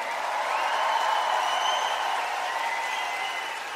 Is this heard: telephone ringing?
no